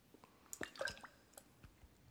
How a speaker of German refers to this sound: Oder Wassertropfen.